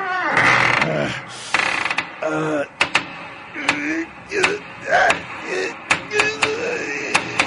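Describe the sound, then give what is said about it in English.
A stuck door is forced open with a run of sharp knocks, rattles and mechanical clunks, irregular, following a stretch of strained vocal sounds at the start. “Oh, first I got to open the door so we can look in there. Oh, wait a minute. I can't quite get the door.”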